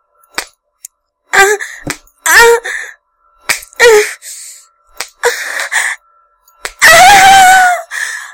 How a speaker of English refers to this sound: Then he starts whipping me and I lose all train of thought.